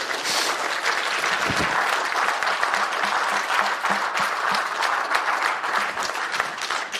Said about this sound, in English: Can I get you to give a warm round of applause to Brother Howard and all the men on this great committee back here? Will you do that?